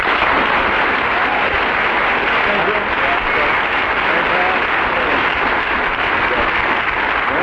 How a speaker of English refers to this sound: I'm going to ask the audience to indicate through their applause which team they thought won that one.